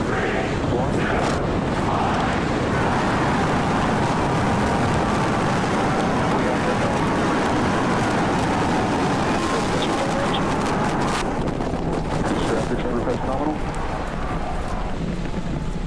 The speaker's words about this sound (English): Seconds into flight, we are feeling the rumble. We are seeing 33 out of 33 Raptor engines ignited on the Super Heavy booster.